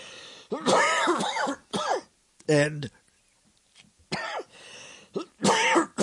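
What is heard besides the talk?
coughing and throat clearing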